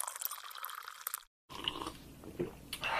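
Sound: sipping tea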